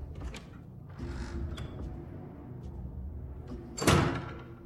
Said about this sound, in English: Shut the door behind you.